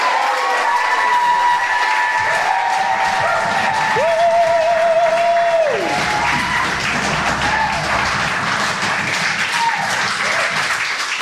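A crowd applauds steadily with dense, continuous clapping, joined by whoops and cheers, including a sustained high whistle partway through, staying loud for the whole stretch.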